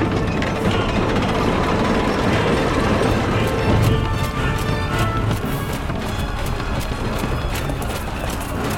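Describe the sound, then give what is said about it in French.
A heavy gate mechanism grinds open in a loud, steady rumble, with rattling ratchet-like clanks and sharp clicks breaking through more often in the second half. “Ouvrez-moi cette putain de porte!”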